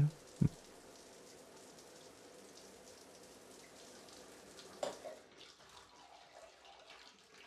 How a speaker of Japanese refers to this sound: 帰ってきて早々シャワーを浴びるなんて清潔でいいね。